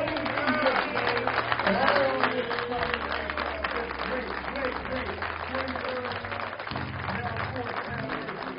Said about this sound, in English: That kind of commitment. I want all of you to applaud this man of God.